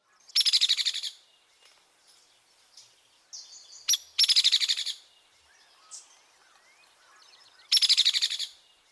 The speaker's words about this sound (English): Recall the rattle of the hairy woodpecker.